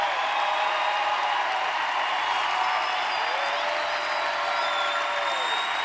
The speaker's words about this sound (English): So I just, please, one big round of applause so they can hear you wherever they are in the building.